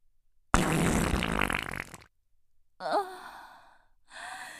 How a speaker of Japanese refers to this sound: ケツ穴開いておなら出る。汚いの。出る。